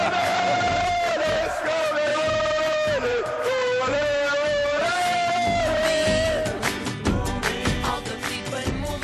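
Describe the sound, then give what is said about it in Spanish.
A large crowd of fans celebrating a win chants in unison, loud and sustained, with a held tonal chant line and rhythmic cheering swelling over nine seconds, breaking into scattered shouts and claps near the end. “No, pero qué gusto, ¿no? Escuchar a la gente así.”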